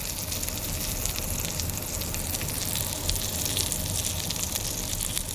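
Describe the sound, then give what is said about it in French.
A grilled cheese sandwich sizzles steadily in a hot pan, cooking gently after being pressed for two minutes to form a crust, a continuous crackle and hiss of frying butter with no talking over it. “Après 2 minutes, on peut lâcher la main et on peut le laisser cuire tout doucement. Ça crépite ? Oui, ça crépite.”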